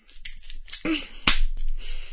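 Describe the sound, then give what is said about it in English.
A single sharp slap of a hand against bare buttocks, a loud crisp crack that stands out clearly over faint background noise, with a softer smack just before it. “Slap your ass?”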